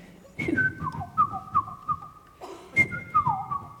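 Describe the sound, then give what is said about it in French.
A person whistles an imitation of the song of the Komadori (Japanese robin), a small Japanese bird that is a kind of nightingale: two bright phrases, each opening on a high sustained note, then dropping through quick warbling trills to lower held tones. “Et le Komadori, c'est un autre petit oiseau japonais qui est un genre de rossignol. Et en fait, il a un chant assez caractéristique qui fait quelque chose comme...”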